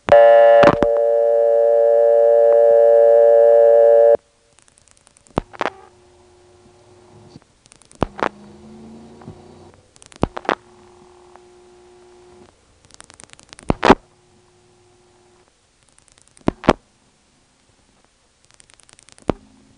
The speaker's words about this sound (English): Let's dial a local ringing number.